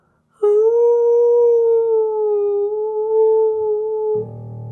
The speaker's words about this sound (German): Und wenn er nicht gestorben ist, dann jault er noch heute. Und eins ist sicher, bei Vollmond da jaulen sowieso alle Wölfe, denn sie sehen immer noch die Kaninchen, die da oben lustig auf dem Mond herumspringen.